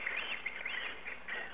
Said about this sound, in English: Ah, tropical birds. Was it the same bird that was on Pee-wee's Playhouse? I'm pretty sure it was.